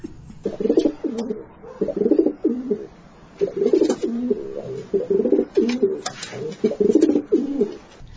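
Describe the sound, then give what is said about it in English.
A pigeon coos in repeated soft, throaty phrases, a steady rhythm of low rolling calls with brief pauses between them. “You know, let me get a pigeon in here to answer some questions.”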